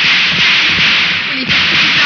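Several arrows whip through the air and thud into a tree that a man had been hiding behind, in quick, irregular succession, heard against a steady background hiss with no one speaking.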